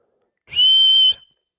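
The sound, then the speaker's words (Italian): A young girl whistles a single steady, high-pitched note lasting about half a second, loud, with no other sounds around it. “Ed ha fischiato, e gli ho detto: tesoro, sai fischiare?”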